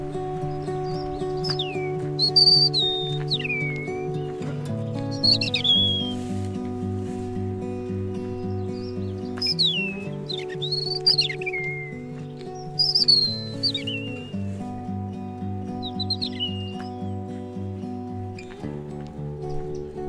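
european robin singing

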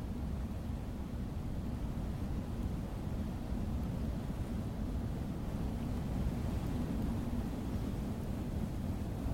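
strong wind

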